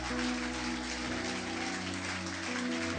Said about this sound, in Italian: Quanti possiamo ringraziare il Signore? Con un applauso forte al Re dei Re. Forte l'applauso a Cristo.